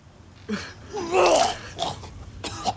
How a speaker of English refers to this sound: His face is covered in sticky-looking gore as he coughs up more deep red fluid onto the straw-covered ground.